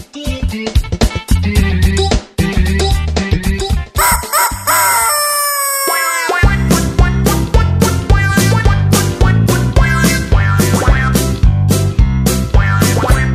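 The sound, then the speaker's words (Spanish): A bouncy, up-tempo children's song about a rooster plays loud, with steady rhythmic beats and bright melody, briefly interrupted midway by a drawn-out rooster-like crow before the music resumes. “Vamos a escuchar una canción que a los niños les gusta mucho y comen muy bien cuando la escuchan.”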